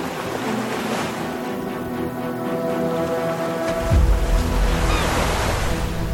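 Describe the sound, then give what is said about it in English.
Sea waves wash steadily under a cool, breezy wind on the coast of Gaza at sunrise on October 7th, with a faint humming tone as boats move up and down; a deeper rumbling gust swells in partway through and holds to the end. “Boats are moving up and down in the cool sea breeze.”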